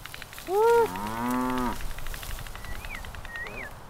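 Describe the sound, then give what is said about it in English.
A cow lets out a loud, drawn-out moo as cattle are moved to new pasture on a farm, rising then holding steady for about a second, followed by quieter outdoor background with faint bird chirps. “We're moving his cattle to new pasture.”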